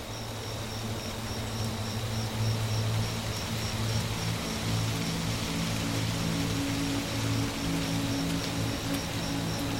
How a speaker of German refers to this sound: Nach und nach setzt ein sanfter Regen ein. Tropfen fallen leise auf die Blätter über dir und erzeugen ein beruhigendes Prasseln.